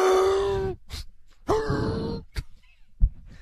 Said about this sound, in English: It's the donkey. The donkey's making. That's your donkey sound effect? Laughs. Let me hear that again, please.